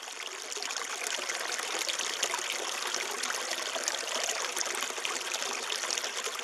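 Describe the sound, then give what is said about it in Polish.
Water from a fountain trickles and splashes steadily, a continuous bright, fizzy rush at an even moderate level, with no voices. “I dlatego ona jest tak w poprzek ustawiona, gdzie widać wodę, gdzie widać fontannę.”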